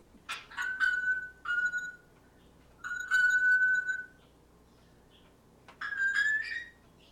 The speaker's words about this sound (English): This is a little off the subject, but what kind of noise was that pinging noise? That is a noise that's made by Phoebe, who is an African gray parrot. And as near as we can figure out, that sound is a bell sound